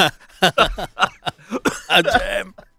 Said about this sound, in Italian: Aspetta, devo dare un colpo di tosse. Poco radiofonico.